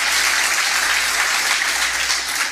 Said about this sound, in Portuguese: Então, agradeço pelos aplausos, né? Mas foi Jesus que fez, amém, irmãos?